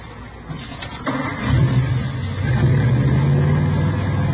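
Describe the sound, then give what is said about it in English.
A modified car engine built up from salvage cars, with Mallory ignition, milled heads, twin Wakefields and 120 horsepower, cranks and catches about a second in, then settles into a loud, steady low rumble that swells as it's revved, with a throaty, uneven idle underneath. “Here, let me start it up for you.”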